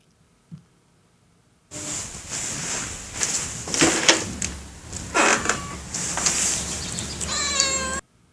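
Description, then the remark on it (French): A cat meows loudly and insistently over a dense, noisy background, with drawn-out, wavering cries that end abruptly after several seconds; no one speaks. “Ici, on miaule toujours pas.”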